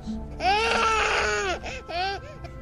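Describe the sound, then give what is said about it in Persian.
A baby animal of unknown kind cries and whimpers, giving a long, high, wavering wail followed by a shorter second cry after a brief pause. No one speaks. “اون چیه دیگه؟ آیا هیوله است؟ نه، فقط یه بچه است.”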